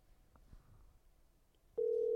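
A loud, steady telephone ringing tone of an outgoing phone call placed over a Bluetooth connection starts abruptly near the end and holds unbroken, preceded by faint handling bumps and low background rumble.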